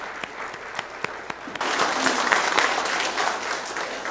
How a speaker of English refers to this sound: Let's give them applause for their sharing today.